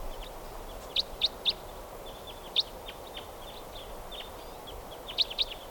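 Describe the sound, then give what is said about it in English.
A type 4 bird calls as it flies over: sharp, high-pitched chirps in a quick burst of three, then a single note, then a final pair, set against a faint steady background hiss. “Oh, and a type 4 bird happens to be flying over right now.”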